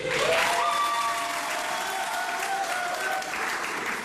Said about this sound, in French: là, c'est un centrafricain qui a fait quelque chose de bien. On doit l'applaudir.